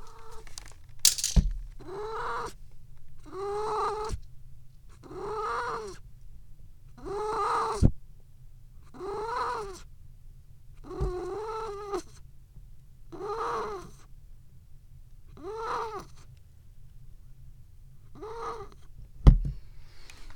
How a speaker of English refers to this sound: Oh, wait, kitty poop sounds. Kitty poops.